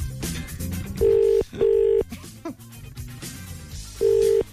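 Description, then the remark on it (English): A telephone ringback tone sounds on a call to County Clare, the seventh attempt: a steady buzzing double ring, two short bursts followed by a pause and another ring, heard over faint background music and noise. “It's ringing. This is lucky number seven now.”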